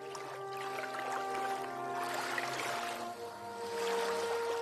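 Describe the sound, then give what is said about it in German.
Gentle waves on a calm, nearly mirror-smooth lake lap steadily against the shore in a soft, continuous wash, with a faint steady hum underneath and no voices. “Nur ein paar sanfte Wellen strömen gleichmäßig ans Ufer.”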